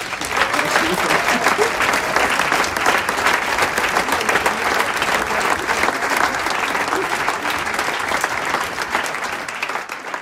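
A big round of applause fills the whole stretch, dense and steady clapping from many hands at a loud, even level with no pauses and no voices standing out.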